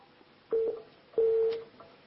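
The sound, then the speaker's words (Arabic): A phone line tone after a caller's call from Morocco drops: two loud, steady electronic beeps, the second one longer, with faint line noise between them and no voices. “طيب فصل التليفون.”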